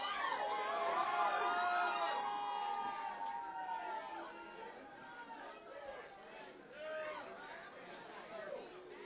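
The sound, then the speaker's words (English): A packed bar crowd in Wilkes-Barre cheers and whoops after a band with banjo and bass finishes its set, a dense, steady wash of many overlapping voices and shouts that stays loud for several seconds before easing slightly. “Bar Fun, give it up for ….”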